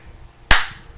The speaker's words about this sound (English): That was a light slap.